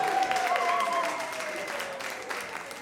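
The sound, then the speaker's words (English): A crowd at a church service applauds steadily for a few seconds for the people at the front, the dense clapping fairly loud at first and gradually easing off, with a faint murmur of voices beneath. “Can we give these guys at the front a round of applause?”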